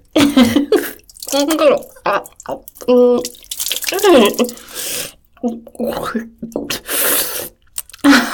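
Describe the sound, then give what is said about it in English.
Milk being poured onto a person's face and dripping in uneven splashes, heard alongside breathy vocal sounds and soft murmurs from a voice. “And Daddy, there's no need to pour it on my face.”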